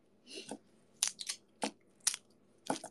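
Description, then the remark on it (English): Garlic cloves being hit sideways with a knife to crush them, a series of about six sharp crunching smacks at an uneven pace, each a brief crackly burst, with no talking. “First, you gotta hit the garlic. Like that. Yeah. And give it a nice smack.”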